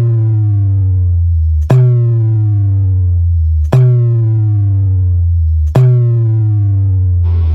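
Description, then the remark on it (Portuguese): A loud, buzzy test tone from the Caminhão Pancadão do Maranhão sound truck's system, played to test frequencies, sweeps steadily downward in pitch, snapping back up and repeating about every two seconds, four sweeps in all with no voices. “Testando frequências.”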